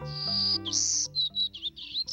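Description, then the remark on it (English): A male golden-cheeked warbler, a bird smaller than a sparrow with a white belly, yellow face and black throat, sings in the trees a high, buzzy song: two drawn-out wheezy notes followed by four or five quick, short buzzes, clear, over a faint low tonal background. “No, it's a bird. A golden-cheeked warbler, to be exact.”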